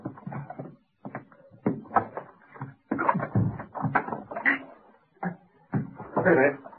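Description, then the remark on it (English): A door is shoved repeatedly against something that has fallen behind it and blocks it, giving a series of heavy, uneven thumps and bumps mixed with muffled voices. “I can't get the door open. Something's fallen behind it. Shove.”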